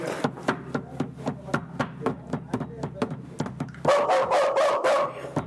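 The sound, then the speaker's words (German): A dog barks in a quick, steady run of short, sharp yaps, then breaks into louder, fuller, more drawn-out barking near the end. “Na gut, wenn das auch so ist, es ist eh der Hund.”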